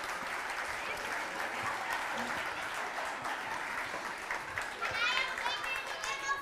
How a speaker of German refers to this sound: Danke. Kurzen Applaus für unsere 3 freiwilligen Mutigen hier.